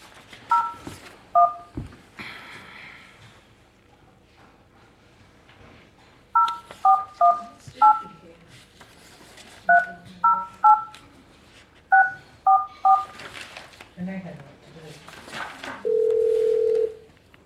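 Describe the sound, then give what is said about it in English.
A dozen or so short telephone keypad tones beep in quick bursts as a phone number is dialed to place a call, grouped in clusters with pauses between, followed by a steady, longer ringing tone at the end. Faint background noise throughout. “I have joined my phone, so I'm going to give him a call.”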